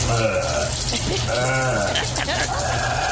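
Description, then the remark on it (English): Wet, gurgling sounds of a nasal rinse routine, done twice a day, with sloshing water and snorting, bubbly breaths, steady and fairly loud for about three seconds, with a low hum running underneath. “That is my nasal rinse routine.”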